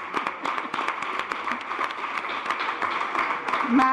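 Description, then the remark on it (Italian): Audience applause for Professor Angelita Mingano, who is not present: dense, steady crackle of many hands clapping throughout, with a faint voice rising briefly near the end. “Vabbè, facciamo un applauso anche a lei, che non è presente.”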